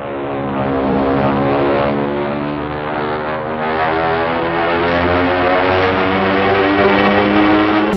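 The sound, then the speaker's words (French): A steady, droning airplane engine hum fills the cabin before takeoff, loud and continuous with a tonal whine layered over a low rumble, holding evenly throughout with no voices. “Nous allons bientôt décoller. We'll be taking off shortly.”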